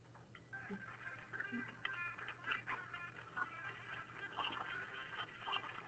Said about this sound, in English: Somebody's phone's going off.